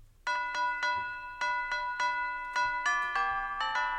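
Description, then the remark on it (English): A bright Christmas song melody is tapped out on chimes, each note ringing with shimmering overtones in a steady, bouncy rhythm of about a dozen strikes, clear with no voices. “Yes, it's Jingle Bells.”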